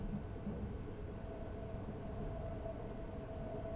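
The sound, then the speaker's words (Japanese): Steady interior rumble of a Shinkansen bullet train in motion, a continuous low roar with a faint whining hum on top, holding at an even level throughout with no voices. “冬に行ったキャンプでは車だったから、電車、しかも新幹線でお兄さんと遠出は初めて。”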